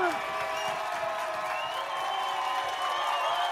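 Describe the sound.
A large crowd cheers and applauds in a dense, continuous roar for a few seconds, with many overlapping voices shouting and whooping at a steady, loud level throughout.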